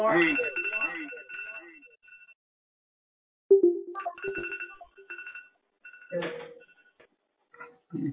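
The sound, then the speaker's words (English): A phone alarm rings in repeated bursts of bright, steady electronic tones, starting and stopping a few times, with some murmured voices underneath. “One's alarm.”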